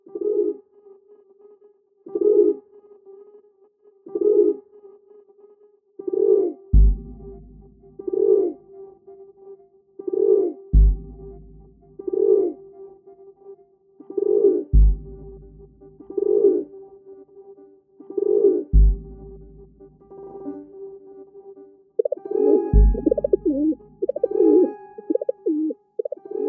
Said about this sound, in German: Sehr eindeutig, das war eine Stadttaube. Hat mich ein bisschen überrascht, dass die Stadttaube es in die Top 10 geschafft hat.